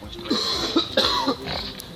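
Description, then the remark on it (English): A quick series of four or five harsh, hacking coughs, fairly loud, coming in uneven bursts to bring up phlegm or mucus, with no talking. “Try different ways to get out phlegm or mucus.”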